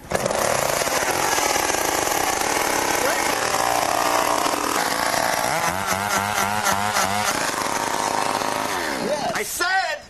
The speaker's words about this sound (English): So this is what, the first or second chainsaw? This is our auxiliary engine, basically. Okay. This is our second engine.